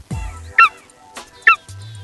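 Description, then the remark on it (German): A golden eagle gives two loud, sharp yelping calls about a second apart, each a brief, piercing burst, with a low rumble and faint background sounds between them. “Zum Beispiel der Steinadler.”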